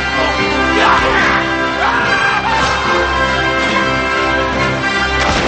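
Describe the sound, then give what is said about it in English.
A dense, loud battle din: British cannon blasts boom through a constant roar of shouting soldiers fighting hand to hand, with no let-up for several seconds. “British cannons fire and the hand-to-hand combat continues.”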